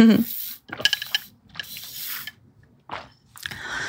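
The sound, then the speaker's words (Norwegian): A person takes several wet, slurping sips of lemon water in short bursts separated by brief pauses, ending with a softer swallow-like sound. No one speaks. “Nå skal jeg ha en slurk sitronvann.”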